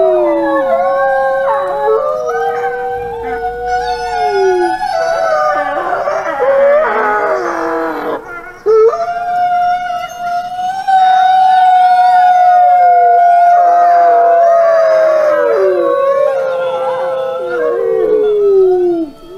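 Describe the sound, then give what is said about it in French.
Several dogs or wolves howl together in long, wavering, overlapping cries that rise and slowly fall, loud, continuing with barely a pause throughout. “C'était ses ancêtres, aujourd'hui cendres et poussière, qui à travers les siècles hurlaient en sa personne.”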